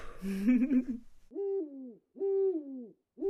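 A Eurasian eagle-owl hooting: a rough, wavering call, then deep, drawn-out hoots repeated at an even pace with short gaps. Clear, with no voices.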